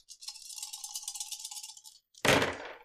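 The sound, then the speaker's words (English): Heavy dice, rolled for a total of 25, rattle and clatter steadily for about two seconds, then after a brief pause a loud, sharp clack rings out as they land and tumble to a stop. “That is a hefty roll.”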